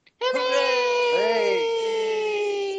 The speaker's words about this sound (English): Hooray! It's kind of you to cheer.